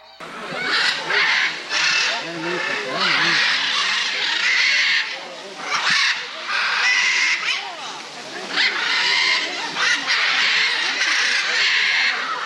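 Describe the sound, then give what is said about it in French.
A dense, loud chorus of parrots squawking and screeching nonstop, many birds calling over one another inside a giant parrot aviary at a large bird park in Latin America, with harsh overlapping cries filling the whole stretch. “Enfin, quand on rentre dans la volière géante des perroquets, c'est impressionnant le bruit que ça fait.”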